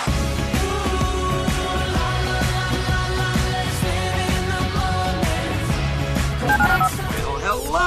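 A quick series of telephone keypad dialing tones, short electronic beeps in a run, heard over a loud, steady bed of music with no talking.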